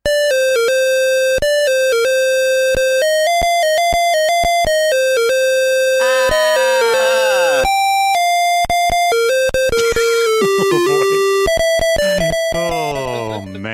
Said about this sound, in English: Let's listen to the theme as rendered by the ever-famous PC speaker Harsh Tones.